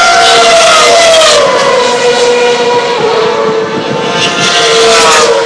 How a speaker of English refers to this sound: And that was the sound of a Ferrari. Love it.